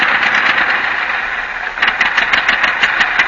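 An early automobile, a horseless carriage, idles with a rough, steady rumble that turns into a quick, rhythmic sputtering chug partway through. It is moderately loud, with no voices.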